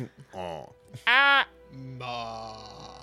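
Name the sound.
goat bleating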